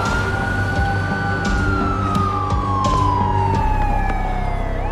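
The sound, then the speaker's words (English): A police siren wails in one long, slow downward sweep, loud, over a steady low engine rumble, with no voices. “A kid is getting handcuffed and given a perp walk out of the house into a cop car as the entire neighborhood looks on.”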